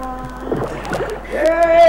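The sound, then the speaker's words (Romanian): Oars splash and slosh in water as a small rowboat draws near, with a voice or sustained tones sounding over the rhythmic paddling throughout. “Vine spre noi o barcă în care sunt regele și ducele.”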